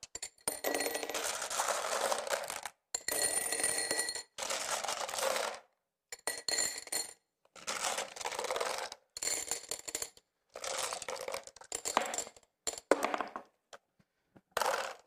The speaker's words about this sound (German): Also, ich habe hier ein Glas mitgebracht und werde da jetzt mal Murmeln hineintun. Mal sehen, wie viele reinpassen.